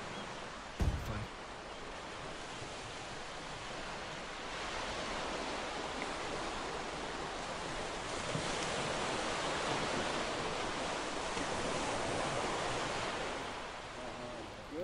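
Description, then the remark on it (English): A steady, continuous rush of the Housatonic River flowing outdoors at a riverwalk, a dense hiss that swells slightly at times, with a brief knock near the start. “Beautiful river. Housatonic River.”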